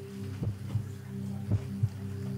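A mother's slow heartbeat thuds in low, muffled lub-dub pairs, two double beats over a steady low hum, soft with no voices.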